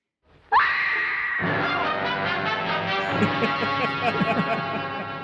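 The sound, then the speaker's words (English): A sudden, shrill scream-queen scream from a horror film leaps upward in pitch, then a loud, dramatic orchestral music sting crashes in and swells, holding dense and sustained for several seconds. “So that's a good scream queen scream, and then some a dramatic music sting.”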